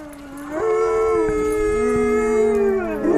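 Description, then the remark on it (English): A dog howls in one long, sustained wail that rises in pitch and holds steady before tailing off, fairly loud, with no talking over it. “Good boy.”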